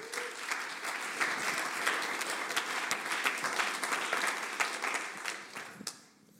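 Sustained applause from a crowd, a dense wash of many hands clapping at steady volume for about six seconds before fading out quickly at the end.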